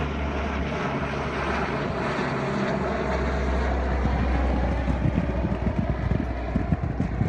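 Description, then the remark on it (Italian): An International Red Cross propeller cargo plane drones overhead while dropping about 30 tonnes of food sacks from the sky, a loud, steady engine roar with a low rumbling hum that swells slightly and turns choppier toward the end, with no voices. “Così, l'unico modo per sfamare la popolazione è con degli aerei della Croce Rossa Internazionale che lanciano dal cielo circa 30 tonnellate di sacchi pieni di cibo.”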